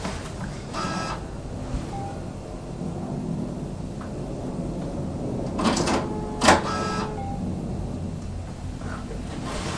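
A printer runs with a steady mechanical whir, broken by a few short grinding bursts of the print mechanism moving, one near the start and a louder cluster later on.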